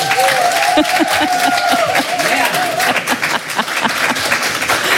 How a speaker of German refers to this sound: Ich freue mich sehr auf ihn und Sie spendieren ihm hoffentlich einen herzlichen Willkommensapplaus.